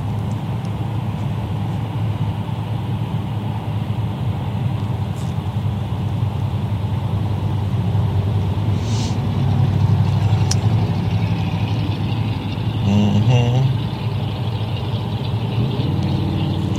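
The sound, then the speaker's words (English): A car engine idles with a steady, low rumble that swells briefly a couple of times, accompanied by faint higher-pitched mechanical whines. The car is from Mexington, Nebraska. No one speaks. “Let's see where that car is from, okay?”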